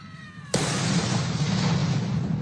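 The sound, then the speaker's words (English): A single loud cannon shot of a cannon salute in London's Hyde Park, marking King Charles's accession day and the first anniversary of Queen Elizabeth's death, booms out after a moment of quieter background tones, its sharp blast giving way to a long, rolling roar of echo that carries on to the end. “A cannon salute on his accession day.”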